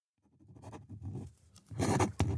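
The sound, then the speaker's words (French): A pen scratches quickly across paper in short strokes, a brief scrawl ending with a couple of sharper flourishes, like a signature being written. No one speaks over it. “Qu'est-ce que tu as rajouté ? Mon nom. J'avais oublié de signer.”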